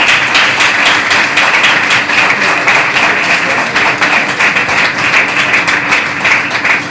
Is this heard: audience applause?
yes